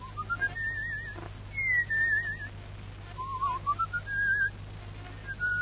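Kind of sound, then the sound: human body sound, person whistling a tune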